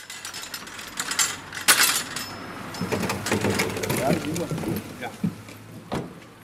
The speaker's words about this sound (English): thanks a man for helping him to pile tankards into the trunk of his car.